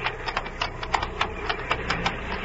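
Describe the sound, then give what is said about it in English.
A forest patrol plane's engine sputters unevenly, its low steady drone broken by irregular popping bursts, about four a second, with no voices over it. “Should it sound like that? Sputtering?”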